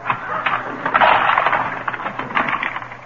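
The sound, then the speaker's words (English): A cash register being opened by pushing a little valve down: a few seconds of busy mechanical clatter and rattling, with a louder burst of clanking in the middle and sharp ticks scattered throughout. “Now look, here's the cash register. Let's see, you push the little valve down.”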